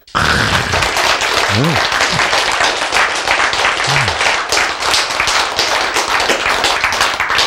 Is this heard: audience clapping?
yes